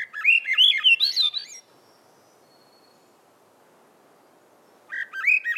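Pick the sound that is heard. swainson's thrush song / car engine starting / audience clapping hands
swainson's thrush song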